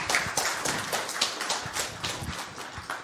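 An audience applauds steadily to welcome two speakers giving a talk about tracking in podcasts, many hands clapping in a dense, crackling wash that holds at a fairly even loudness for about three seconds, with no voices over it.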